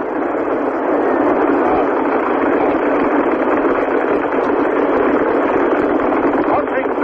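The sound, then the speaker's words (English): The rocket engines of the space shuttle Columbia roar at launch with 7.5 million pounds of thrust as it accelerates through the clouds toward space, a loud, continuous rushing rumble that holds steady without pause, slightly muffled. “7.5 million pounds of thrust from those rocket engines as Columbia accelerates through the clouds up towards space. You can hear the roar.”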